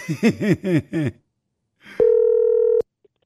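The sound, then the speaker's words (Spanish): Telephone sounds as a call is dialed to an office: four quick, swooping warbled tones, then after a short pause a single steady, loud electronic phone tone holds for just under a second and cuts off. No one talks. “Márcale, por favor, papuchón.”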